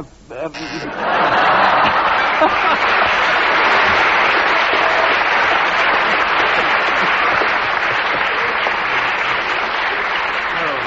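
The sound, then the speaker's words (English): Sustained audience applause: a dense, steady roar of many hands clapping that starts abruptly after a brief quiet moment and stays loud and even for about ten seconds. “Peter, I think the audience applause tells you that such a bizarre subject, you achieved miracles with it.”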